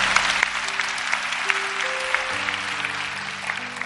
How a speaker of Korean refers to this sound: 박수를 올려드리겠습니다.